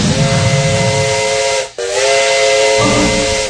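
A steam train whistle blows loud and steady with layered harmonic tones over a broad hiss of steam, breaking off briefly at the midpoint before sounding again just as strongly.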